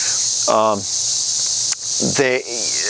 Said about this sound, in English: And hopefully I won't get attacked by the cicadas.